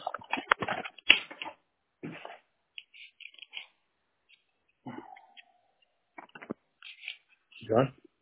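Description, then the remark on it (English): Irregular bursts of keyboard typing as someone types in notes during a phone call, clicks coming in quick clusters with short pauses, heard over a thin phone-like line, with a few brief murmured voice sounds in between. “Yeah, I'm just typing in some notes here. Sorry for the silence there.”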